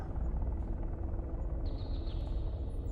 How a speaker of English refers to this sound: "You saved her," I said, and tried to smile while the helicopter took off.